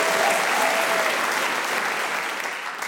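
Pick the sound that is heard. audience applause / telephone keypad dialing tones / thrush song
audience applause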